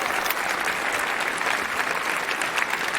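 Steady, dense applause from an audience at a poetry slam event fills the whole stretch, many hands clapping at a fairly loud, even level with no pauses and no voices standing out.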